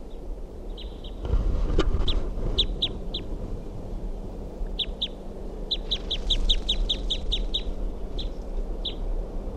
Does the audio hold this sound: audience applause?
no